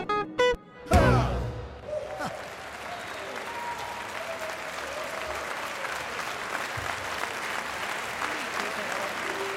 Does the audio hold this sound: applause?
yes